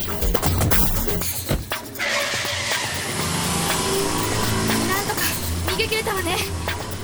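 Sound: car engine accelerating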